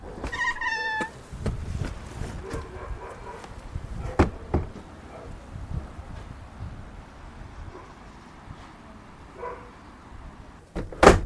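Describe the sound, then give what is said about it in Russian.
The door of a structure is opened slightly with a few knocks and clatters, and dogs bark and yelp in high, whiny calls outside, over a steady outdoor background hiss, in the settlement of Beit El, 20 minutes' drive north of Jerusalem. “Я сейчас приоткрою дверь этого сооружения, в котором я нахожусь, чтобы вам было слышнее наших собак.”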